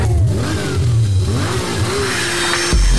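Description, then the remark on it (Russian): A car engine revs hard at a drag race, its pitch climbing and dropping in several surging pulls before settling into a deep, loud rumble at the end. “мотор ревет, как зверь, визг тормозов, свет от фонарей, ставки сделаны, да, дави на газ, драг рейсинг, это все для вас.”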